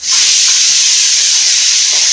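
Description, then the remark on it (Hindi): A pressure cooker cooking khichdi of rice, lentils and vegetables vents steam in a loud, steady hissing rush that stays continuous for about two seconds, with no voices. “और फिर बंद कर दिया कुकर, और कुछ देर में बजेगी सीटी।”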